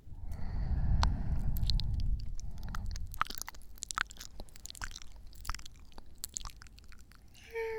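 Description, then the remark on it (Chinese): Wet licking mouth sounds of an ear being licked, soft smacks and sticky clicks in an irregular stream, starting over a low muffled rumble and continuing alone at a moderate level, with no talking. “舔下耳朵而已，又不会少块肉。”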